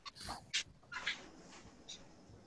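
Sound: dog whimpering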